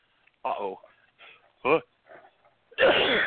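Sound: sneeze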